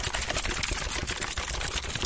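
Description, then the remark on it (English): Dense, overlapping clatter of many writers typing at once on laptops, keyboards and smartphones, a steady wash of rapid clicks with no pauses and no voices. “the sounds these writers made, clacking away on their laptops, keyboards, and smartphones in unison.”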